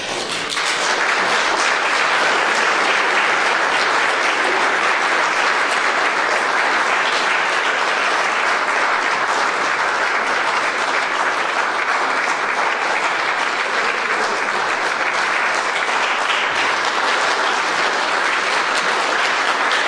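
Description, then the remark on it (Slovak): A church audience in Bratislava applauds steadily for about twenty seconds, a dense, loud wash of many hands clapping at once with no voices over it. “Že ten potlesk vyjadril, že sme vďační za tvoju službu nám, spoločenstvám veriacich v Bratislave, cirkvi bratskej ako takej a aj mnohým spoločenstvám ďaleko mimo nás, ktoré nás presahujú aj celému mestu a nášmu”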